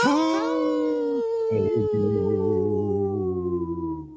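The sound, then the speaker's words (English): A person imitates a wolf with a long, deep, sustained howl, holding a low steady pitch with a slight waver before it slowly tapers off; no other sounds. “Did you hear I went, ho, like a deep wolf's voice?”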